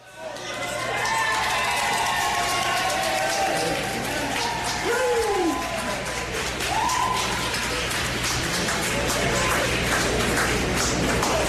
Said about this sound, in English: And here's the Dubs arriving to the Gibson Hotel last night to, surprise, surprise, rounds of applause from the fans.